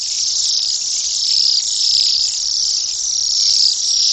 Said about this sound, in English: By December, most of the cedars are gone and Bohemian waxwings arrive from the northwest to take their place. These birds are a bit larger and much noisier. They sound more like guinea pigs snoring.